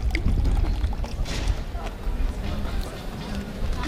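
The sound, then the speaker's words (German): A fizzy sherbet drink (Brause) is poured with a steady rushing, hissing wash of liquid and bubbles, fairly loud, over a low rumble and faint background murmur for the whole few seconds. “Und eure Brausen natürlich trinken, ne?”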